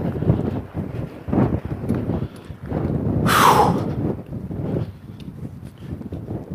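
Cold wind whistling past the ears of someone walking outdoors with head down: it rushes and buffets in a steady low roar, swelling midway into a sharper gust with a brief high whistle that drops in pitch before the blustery rumble settles again.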